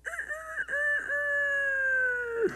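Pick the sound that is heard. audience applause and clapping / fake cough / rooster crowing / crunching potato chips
rooster crowing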